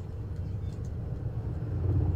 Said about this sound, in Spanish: Hay un sonido. Es helicópteros.